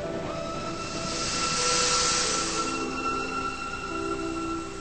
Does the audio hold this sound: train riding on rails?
yes